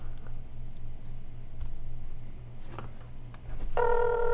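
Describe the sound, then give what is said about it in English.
A phone being dialed on speakerphone: scattered soft taps over a low steady hum, then a loud electronic calling tone kicks in near the end. No one speaks. “Speakerphone. Making a phone call.”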